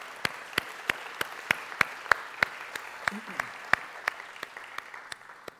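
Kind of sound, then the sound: crowd, audience applauding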